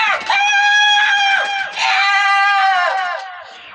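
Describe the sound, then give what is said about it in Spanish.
A large black bird hopping among tree branches screeches twice at intervals in long, loud, drawn-out cries, each call wavering slightly before the second trails off. “Observan atentamente al pajarraco negro que salta entre las ramas y lanza chillidos a intervalos.”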